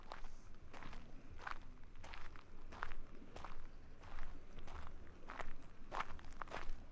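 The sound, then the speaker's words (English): Steady footsteps walking at an even pace to the edge of Somersville Lake in Nicholas County, West Virginia, on a Saturday morning, about ten crunchy steps on gravel or dry ground, each a sharp scuffing crunch over a low constant background hum. No one speaks. “Walking to the edge of Somersville Lake on a Saturday morning, the lake is pristine and calm.”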